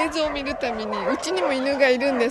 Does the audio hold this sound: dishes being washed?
no